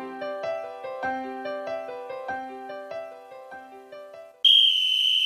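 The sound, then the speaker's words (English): A short melodic musical jingle plays for a few seconds, then a single loud, sustained high-pitched whistle blast, blown as a two-minute warning, cuts in and holds steady to the end. “That whistle is so appropriate.”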